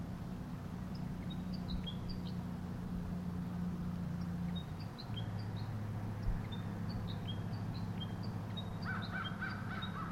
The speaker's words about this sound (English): The remainder of the flock. Three birds interact in a more distant Table Mountain pine. The wild bird above me continues to call or sing.